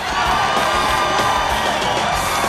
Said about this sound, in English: Sweet! The crowd go wild as the Nuggets equalize.